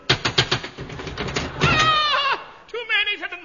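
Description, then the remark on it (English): A quick series of about seven sharp knocks on a cottage door, evenly spaced, then a drawn-out, wavering voice rises and falls, followed by more talking. “I'll knock.”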